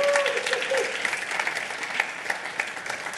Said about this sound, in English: Give a round of applause for Isabel.